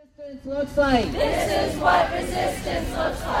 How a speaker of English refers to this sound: A crowd of immigrant advocates, organizers, and Southeast Asian community members began gathering around 8:30 this morning, ready to support the families who were showing up to report in with ICE.